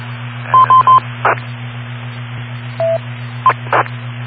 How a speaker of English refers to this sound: I got a little beep on my radio. New radio here, by the way,